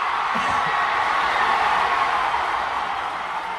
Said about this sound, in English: And the sound, Liz, the eruption of applause when everybody realizes the cat is alive.